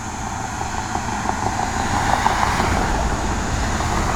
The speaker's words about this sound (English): It's a lot of traffic out. Maybe everybody's going home from the bars.